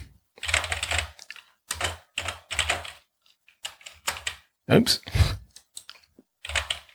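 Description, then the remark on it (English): Loud, clattery typing on a computer keyboard in bursts of rapid keystrokes with short pauses between, with a brief spoken exclamation partway through. “I have the loudest keyboard in the known universe.”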